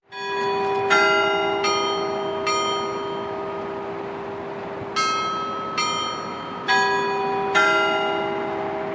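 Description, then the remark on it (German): Church bells ring out in a steady peal, about seven loud strikes over a sustained humming resonance, each stroke leaving a long shimmering decay; no voices are present. “Doch auch in Island schlagen die Kirchenglocken nicht überall auf die gleiche Weise wie in Reykjavik.”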